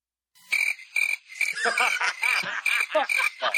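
A steady night chorus of chirping crickets, a high continuous trill with rapid rhythmic pulses and croaky calls layered over it, moderately loud, with no one talking.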